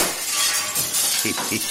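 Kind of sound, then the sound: sound effect, glass shattering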